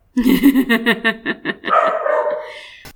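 dog barking

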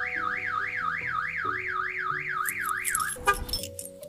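car alarm going off

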